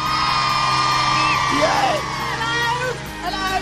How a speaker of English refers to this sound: Ladies and gentlemen, put your hands together. Oh. A big cheer